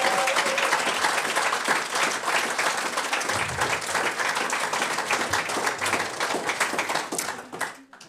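An audience in Heiligenstadt applauds a guest after an interview, a dense wash of many hands clapping at a constant level for several seconds before fading out quickly at the end.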